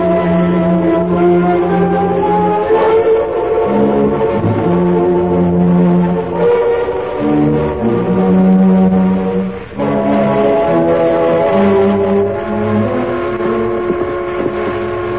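The whistle of an eastbound train sounds loud in long, sustained blasts, its chord-like tones shifting pitch several times with only brief breaks, and no one speaking.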